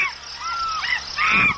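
Shrill monkey calls ring out, a couple of rising, wavering cries ending in a louder, harsher screech, with no talking.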